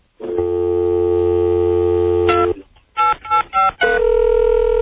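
A steady telephone dial tone hums for a couple of seconds as a radio show tries a phone line, then a quick run of four touch-tone dialing beeps, followed by another sustained line tone, loud.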